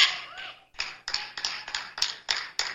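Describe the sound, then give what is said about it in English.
A lone person in a crowd gathered for a political candidate's impromptu announcement claps steadily, about eight or nine sharp, fairly loud claps at an even pace, each one ringing out briefly before the next. No voices are heard. “At that moment there, one single person is clapping.”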